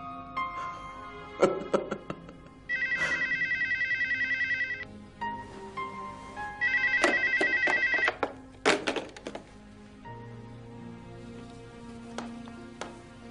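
A telephone rings in two long electronic bursts, each a rapid trilling tone lasting about two seconds, set amid clattering handling noises and a low background hum.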